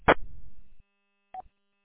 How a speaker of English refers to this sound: Also, I noticed that it sounds like you have some form of weird Roger beep or squelch tail on the end of your transmit. I don't know what happened. I didn't hear that earlier.